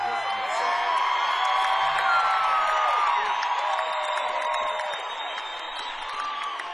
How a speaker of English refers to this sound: excited to hear you applaud a new song.